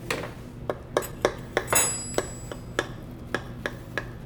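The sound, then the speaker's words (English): Cutlery digs into a crusty, brown, freshly baked dish, an Italian 'brutto ma buone' style dish: a steady series of sharp clicks and scraping crunches, with a brief bright metallic ring partway through, and no voices. “A little squish, and you can still hear like a little bit of crunch.”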